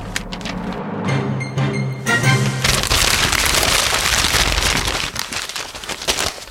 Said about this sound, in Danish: Jeg skal have noget papir at rasle med.